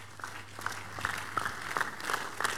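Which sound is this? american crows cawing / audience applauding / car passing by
audience applauding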